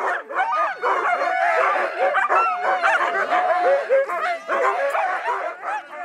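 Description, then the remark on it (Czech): A pack of dogs harnessed to a sled, with a single man, barks and yelps all at once as it bursts from a dense fir forest at the far end of a small lake about a quarter mile away, a dense, overlapping chorus of excited voices with some whining, loud, continuing without a break. “Na jeho protějším konci, asi čtvrt míle vzdáleném, vyrazila z hustého jedlového lesa smečka psů zapřažených do saní.”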